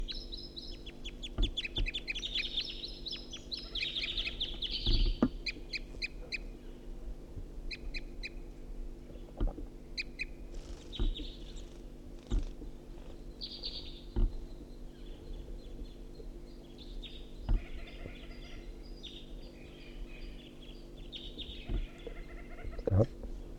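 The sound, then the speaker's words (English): A second wild bird calls back to a first bird that is tooping, with repeated high, chirping tooping notes in short bursts, with another bird's calls scattered throughout, all over a steady low hum and faint thumps. “Sorry, calling back to the first bird who's tooping.”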